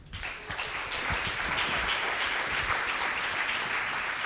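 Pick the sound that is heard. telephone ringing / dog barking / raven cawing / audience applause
audience applause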